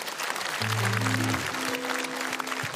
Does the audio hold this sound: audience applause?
yes